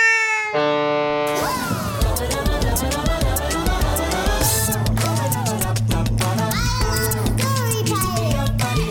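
A cat meows repeatedly, its rising and falling cries tangled in a dense, busy background of overlapping sounds and steady low hum, fairly loud throughout.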